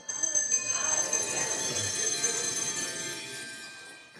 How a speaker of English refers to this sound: Okay, you can put the bells away for a little bit.